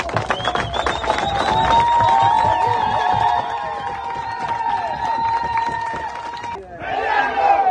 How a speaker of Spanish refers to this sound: Los ciudadanos gritaban consignas contra la minera y pedían la salida del país de la empresa en un ambiente de tensión.